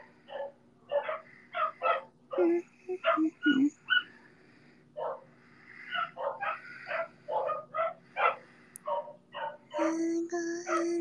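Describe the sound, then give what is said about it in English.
Dogs bark in rapid, overlapping bursts with yips and snarly yelps mixed in, loud throughout, like a frantic fight between several dogs. “The dogs are fighting. They're doing a barking fight.”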